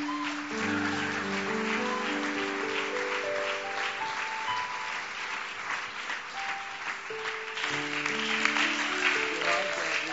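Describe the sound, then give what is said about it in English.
An audience claps steadily for about ten seconds to welcome a woman who is coming up, a dense, even wash of hand clapping over sustained keyboard or organ chords that shift in pitch. “Give the pretty girl a hand clap.”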